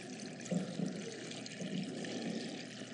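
Water pours in a steady, continuous stream with a soft splashing texture, fairly quiet, with no voices.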